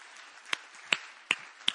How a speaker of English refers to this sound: Give the Lord a good clap offering this morning if you would.